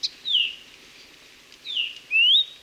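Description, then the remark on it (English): A Maui parrotbill (kiwikiu), a bird native to Maui, calls with three clear, high whistled notes: a short chip first, then two slurred, sliding calls close together, against a quiet background. “Like many of Maui's native birds, kiwiquiu have been devastated by avian malaria and other fatal diseases spread by invasive mosquitoes.”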